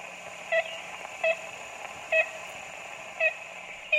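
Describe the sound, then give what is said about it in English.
Old, hissy playback of a 1930s tape recorded in the Singer Tract of ivory-billed woodpecker calls, played hoping for a response: five short, nasal, tooting notes at uneven intervals over a steady background hum, with no voices. “Jackson plays the same tape made in the Singer Tract in the 1930s, hoping for a response”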